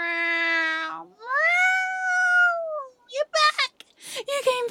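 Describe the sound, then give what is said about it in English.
A person imitates a cat with two long, loud, drawn-out meows, the second rising and falling in pitch, followed by a few quick bursts of speech. “The cat instincts are really strong and...”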